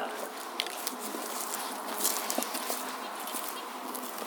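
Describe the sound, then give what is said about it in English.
A steady, crackling buzz of AM radio static from a radio broadcasting an AM station fills the whole stretch, continuous and fairly loud, with faint garbled broadcast sounds flickering through the noise. “So this is broadcasting the AM station, so this is part of Dan's project here.”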